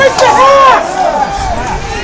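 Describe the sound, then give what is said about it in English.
The Marblehead crowd at a hockey game against Winthrop shouting for a penalty amid some chippiness, a dense wall of overlapping voices with a few rising, drawn-out yells standing out above the steady, loud babble. “Little chippiness going on right now, and people calling, the Marblehead crowd calling for a penalty.”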